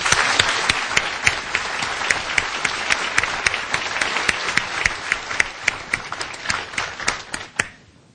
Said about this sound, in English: Please join me again in giving Mary a warm round of applause.